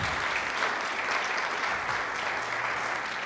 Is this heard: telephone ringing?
no